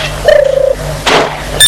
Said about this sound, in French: Il entend la sonnette du portail.